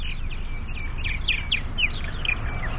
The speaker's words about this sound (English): We got a pretty good amount of birds this year. They're singing. They're happy. They like people. They like for you to stand around and talk to them, just like we're doing now.